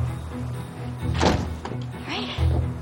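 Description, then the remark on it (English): The front door of a house swings open and shuts with a single solid thunk and a brief rattle as a woman comes out during the day, with fresh snow on the bushes, set against a low steady hum with faint voice-like murmurs around it. “Kristen comes out the front door.”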